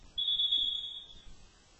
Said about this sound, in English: Oh. Blows the whistle just so they can substitute three guys in and out there. Good call by the official. Doing a good job of sportsmanship and just letting those guys come on in. Got a stoppage of play.